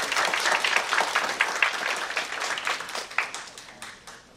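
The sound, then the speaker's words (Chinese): Steady applause from an audience at a game industry gathering, welcoming the network strategy chief of Lager Network to give the opening talk. Many hands clap in a dense, continuous patter that holds for several seconds before gradually thinning out. “我想要邀请雷爵的网络策略长 Samuel 郭帮我们做个开场，大家掌声欢迎他一下。”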